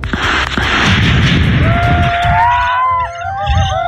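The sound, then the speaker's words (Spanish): Sharp gunshot cracks burst through a dense, loud wash of noise during a massive police and military raid at dawn on the Tebucuicuy community in Ercilla, and partway through a siren begins to wail and rise over the commotion. No one speaks. “Hubo disparos y 5 comuneros fueron detenidos.”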